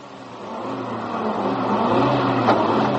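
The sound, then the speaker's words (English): A car engine revs and climbs in pitch as the vehicle accelerates away, its steady mid-range roar swelling louder over a few seconds with no voices. “Smith's got the cars out.”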